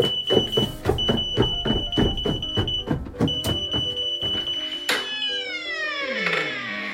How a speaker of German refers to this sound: Wir haben wohl den Herd angelassen. Riecht man, oder? Ich gehe runter und mach den Rauchmelder aus.